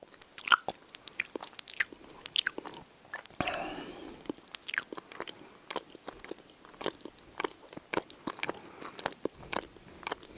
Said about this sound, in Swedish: Smaska. Alltså smaska, prata i mun med så här, när man har mat i munnen och så här, tuggar högt.